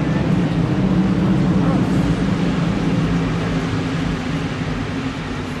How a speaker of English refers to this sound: So, a little more, we'll wait for the cars to go by again before I ask the next question.